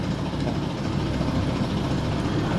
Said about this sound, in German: Haben wir eine Sekunde Sendepause. Genau. Bis die Müllabfuhr vorbeigefahren ist.